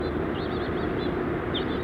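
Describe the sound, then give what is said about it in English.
House finches chirp and warble in thin, high, wavering notes, fairly faint over a loud, steady low rumble that runs through the whole clip. “Bunch of house finches.”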